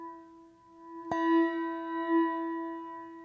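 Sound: memorial bell tolling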